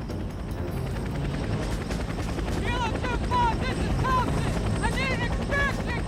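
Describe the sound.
A full evacuation helicopter's rotor thuds loud in a steady rapid chop at a landing zone as North Vietnamese troops converge and terrified Laotians try to board, with raised, shouting voices breaking through the din in the second half.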